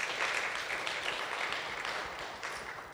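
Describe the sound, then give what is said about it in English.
An audience applauds together in a dense, steady wash of many hands clapping, holding fairly loud throughout and easing slightly toward the end, with no voices standing out. “You all need to just applaud her one more time for sharing her laundry this morning.”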